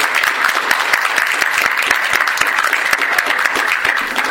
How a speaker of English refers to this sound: Well, I'd like to thank you both for coming and doing the panel. Thank you. Everybody would give them a round of applause.